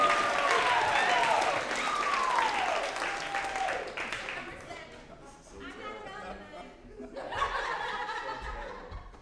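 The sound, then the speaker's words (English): A large audience claps steadily as a speaker walks onto the stage and descends the stairs, with rising whoops and cheers over the applause at first, then the clapping thins into scattered laughter and crowd murmur before another swell. “Keep on clapping, he's almost here.”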